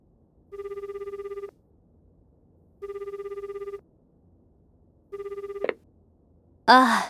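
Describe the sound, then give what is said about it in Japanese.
A telephone rings late at night, three times in even bursts with pauses between, clear; the third ring cuts off as the call is picked up, followed by a brief burst of noise. “深夜の電話”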